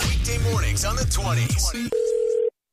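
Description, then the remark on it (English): A steady, unwavering telephone line tone hums for about half a second near the end, following a busy stretch of voices or jingle-like sounds, then cuts off abruptly into silence, as a prank phone call begins. “You're going to hear it in your phone tap right now. It's another phone tap.”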